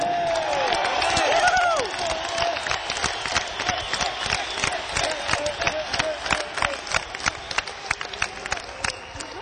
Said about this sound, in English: How about some applause for a very fine keyboard solo from Richard, some great singing from Jeff.